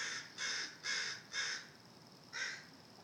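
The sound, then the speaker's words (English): Crows cawing by a nest of baby crows: four harsh, raspy caws in quick, steady succession, a short pause, then one more caw. The calls are fairly loud and alone, with no talking. “Yep, there's a little nest of baby crows up here.”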